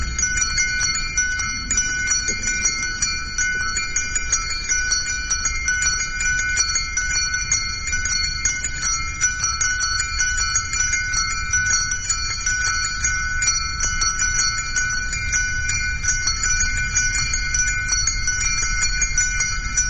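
Church bells ring steadily in a prayer of the bells for the full stretch, their overlapping metallic tones sustained and humming together, fairly loud, with no voices present.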